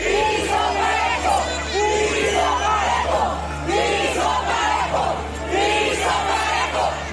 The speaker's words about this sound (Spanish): Este domingo, cuando llegó Sheinbaum al lugar de la reunión del Consejo Nacional de Morena, un grupo de manifestantes le gritó que querían piso parejo.